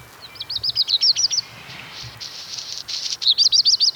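Black redstart song, recorded near a lone garage: a quick series of thin, rhythmic twittering notes, then a scratchy, hissing rustle, then the twittering phrase again, clear with no one speaking.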